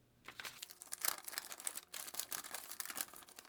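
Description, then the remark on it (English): Crisp crinkling and rustling of paper as a caught paper airplane carrying a message is handled and unfolded, a busy run of crackles lasting a few seconds with no voices. “It doesn't matter if anyone read what's on the paper airplane before I caught it, since I'm the only one with the private key.”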